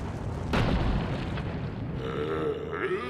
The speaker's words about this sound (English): The forest shakes as loud footsteps come closer.